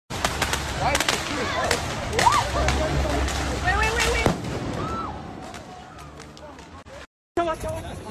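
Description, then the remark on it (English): Rapid bursts of fireworks crackle and pop in quick, irregular volleys as a group of youths driving around Minneapolis fire them at people on the street, with whistling rockets and shouting voices mixed in, before a sudden cutoff and a final loud bang. “Here is a group of youths in Minneapolis who just drove around attacking people with fireworks on the street.”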